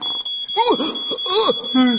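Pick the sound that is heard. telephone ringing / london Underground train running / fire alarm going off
fire alarm going off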